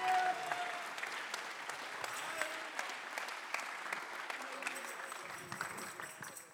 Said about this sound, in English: Clap your hands right now. Alguien aplaude sus manos ahorita.